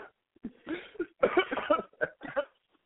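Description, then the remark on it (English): A harsh coughing fit after choking on a grain of rice while eating Chinese food: several rough, sputtering bursts in quick succession, as if someone is clearing a choke, trailing off with a couple of weaker coughs. “Radio with a cough.”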